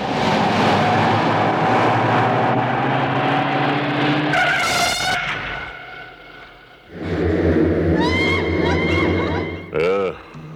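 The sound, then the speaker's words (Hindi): A car engine hums steadily, then a sharp squeal of braking cuts through as it comes to a stop. Things go briefly quieter before the engine revs up again. “गाड़ी क्यों रोकी?”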